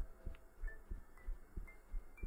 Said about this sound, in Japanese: やっぱり早い？なんか他の人の心拍とかそんな聞かないからわかんないんだけど、いつも早いって言われる。